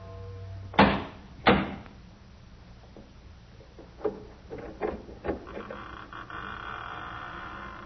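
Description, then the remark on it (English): Two loud, heavy knocks on a massive oak door of a chateau on a high bluff, a pause, then several softer clunks and a drawn-out creak as the heavy door swings open, with no voices. “In a few moments, my bare feet were padding up stone steps, and I stood in front of a massive oaken door.”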